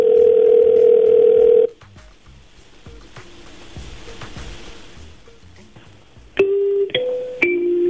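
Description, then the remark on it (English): A loud, steady electronic ring tone from an outgoing phone call by Cool Radio in Phoenix to actor Efren Ramirez, Pedro from Napoleon Dynamite, for an interview sounds once, then gives way to quiet line hiss before a few short stepped beeps close it out. No one speaks. “We're going to give him a call, but we ran into some things, and here's how everything kind of played out.”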